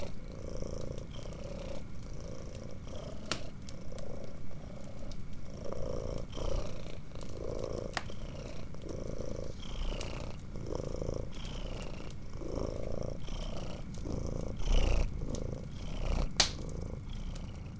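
A cat purrs in a steady, rumbling rhythm, each inhale and exhale marked by a soft swell, continuing unbroken for the whole stretch with no voices.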